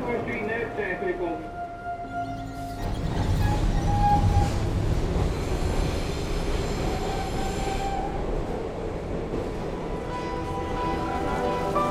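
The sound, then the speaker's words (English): A subway train running underground, headed to Chinatown, rumbles continuously with high metallic wheel squeals. The roar swells a few seconds in and stays heavy, with faint voices murmuring underneath. “Down here, subway.”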